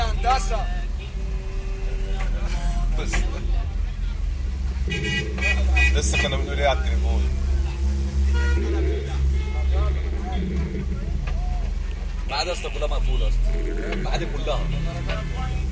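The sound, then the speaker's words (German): Street traffic rumbles steadily, muffled, heard from inside a taxi, with car horns honking repeatedly in the middle stretch and indistinct voices talking over the engine drone; on the street another taxi driver has parked his car and is directing the traffic himself. “Ich sitze immer noch im selben Taxi. Auf der Straße steht jetzt ein anderer Taxifahrer.”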